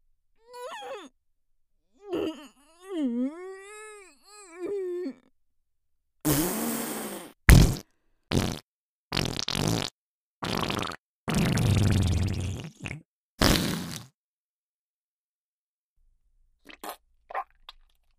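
Loud farts from a middle-aged woman come as a rapid series of blasts, including one long sputtering one, after a drawn-out moaning vocal sound; a few faint clicks trail off at the end.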